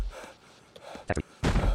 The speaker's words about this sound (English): Why is he breathing so hard? Okay, I have to say it because he's going. Okay, up. He just got so excited, you know?